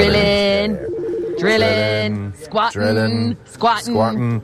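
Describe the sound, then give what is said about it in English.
A loud phone ringtone plays continuously with a bright, tonal, melodic pattern, repeating in short bursts and fluttering phrases without pause. “The phone is very loud.”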